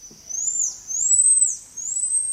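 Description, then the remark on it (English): A monkey gives a series of three long, high-pitched whistling calls, each gently rising and dipping in pitch, a call changed to sound more like the pied tamarin's call; clear, with only faint background noise. “Here's what the new call sounds like.”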